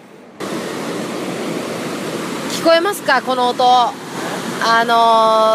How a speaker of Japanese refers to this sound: 川の増水でですね、すごいなんか滝のような音が、これ水です、水が流れる音です。すげえドドドド言ってて、もう大自然に来たって感じ。